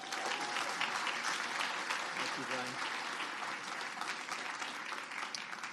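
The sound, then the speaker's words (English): Sustained applause from a church audience welcoming a pastor from Father's Heart, a dense, steady wash of many hands clapping that holds at an even level for several seconds before tapering slightly at the end. “So we'll just clap once at the beginning and once at the end.”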